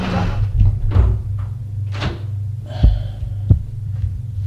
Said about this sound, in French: La porte s'ouvre. C'est Félix lui-même. Entre. Il entre. Félix ferme la porte.